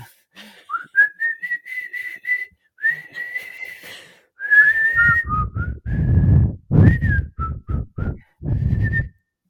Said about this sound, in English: Whistling, when did you learn to whistle?